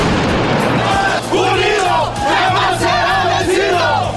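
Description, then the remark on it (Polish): A large protesting crowd of thousands of striking teachers shouts and yells continuously in the centre of Mexico City as police clear them with tear gas and water cannons. Many overlapping voices rise in loud, chant-like cries over a steady low rumble, with no pause throughout. “Meksykańska policja użyła gazu łzawiącego i armatek wodnych do usunięcia tysięcy strajkujących od tygodnia nauczycieli z centrum stolicy Meksyku.”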